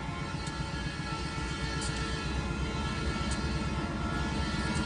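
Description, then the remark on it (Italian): The 4 p.m. freight train: a distant whistle slowly turning into the train's heavy, steady rumble with a dense, pulsing low chug that stays loud and unbroken throughout, with no voices. “Si sente il sibilo lontano che si trasforma lentamente nel respiro affannoso del treno merci, quello delle 4 del pomeriggio.”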